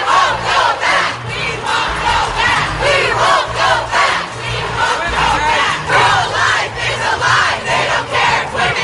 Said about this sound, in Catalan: I milers de persones han protestat pels carrers de Washington contra la sentència del Tribunal Suprem dels Estats Units que ha fet que l'avortament deixi de ser legal arreu del país.